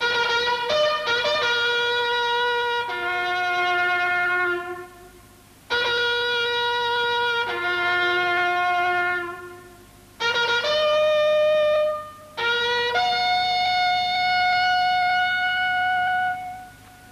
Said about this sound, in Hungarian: Ha a generációk ébresztővel ébrednének, vagy trombita takarodóval feküdnének, akkor egyetlen egy angol koros egyet sem akadna a nemzet kebelében.